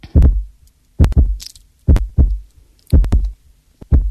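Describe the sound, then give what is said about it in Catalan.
A booming heartbeat picked up by a microphone, thumping in steady lub-dub pairs about once per second, loud and low with no voices present. “Això que sona, amb un batec, en un micròfon, que precisament és el títol de la novel·la de l'Ara Caraltó.”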